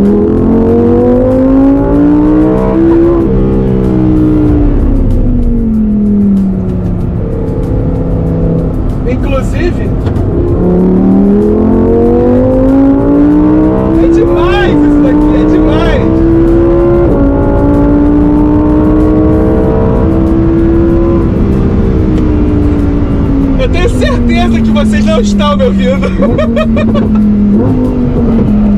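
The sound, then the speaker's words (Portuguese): A rear-wheel-drive Lamborghini Huracán Tecnica engine revs loudly and continuously, its pitch climbing through several long accelerations, each ending with a sharp drop at a gear change before rising again. “O que que representa o Lamborghini Huracan Técnica?”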